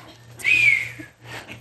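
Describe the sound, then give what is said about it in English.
A man whistles an imitation of a hawk call: one loud, high, slightly falling screech lasting about half a second, followed by a softer, breathier burst, over a low steady hum. “Yeah, didn't that sound like a hawk?”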